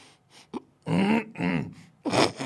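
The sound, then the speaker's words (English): A rough, phlegmy smoker's cough from a man: a few short hacks, then three or four loud, raspy bursts in quick succession, with no talking. “That's a smoker's fucking cough.”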